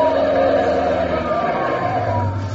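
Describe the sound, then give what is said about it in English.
A police car siren wails loudly and steadily over the rumble of a vehicle engine, sustained throughout, with no one speaking. “A police car. I can see him.”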